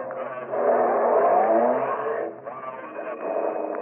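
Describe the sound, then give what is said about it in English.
A car engine revs up and pulls away from a traffic light as the light changes, a steady, fairly loud rising drone with a brief dip partway through, without voices. “When the light changes, take off behind them.”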